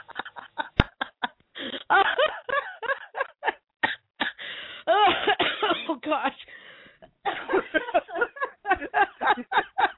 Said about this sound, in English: God, she's going to cough up a lung. Oh, gosh. Oh, I know, right? I just caught this cold, and I'm thinking, you know what? This better not turn into that nasty crap that I had, like, last month when I was down for a month.